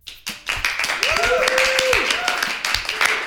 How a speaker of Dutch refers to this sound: Een warm applaus